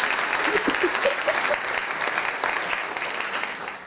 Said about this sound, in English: Quoted by no other than great actor, writer, producer, and soon-to-be director, Miguel A. Nunez Jr. in the building. Ladies and gentlemen, let's give him another round of applause.